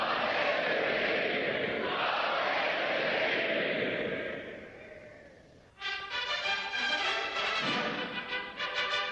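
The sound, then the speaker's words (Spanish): At a coronation in the abbey, a large crowd roars the acclamation "God Save the King" for the newly crowned king. The shouting swells, then fades after a few seconds, before a bright brass fanfare of trumpets takes over. “Es en ese momento cuando todos los presentes exclaman «Dios salve al rey», y mientras los cañones de la Torre de Londres disparan salvas de honor, en la abadía suenan las trompetas.”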